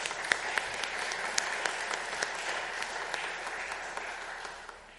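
Sustained applause from an audience for a participant who took part in acting out a story, a dense wash of many hands clapping at steady volume before tapering slightly at the end, with no talking over it.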